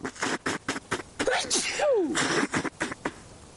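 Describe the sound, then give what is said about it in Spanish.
A string of sharp, loud coughs in quick bursts, broken up by a drawn-out sneeze with a falling, voiced whoop in the middle, then more short coughs. No one speaks. “todos conocemos a alguien con tos, con fiebre, con un test positivo de COVID”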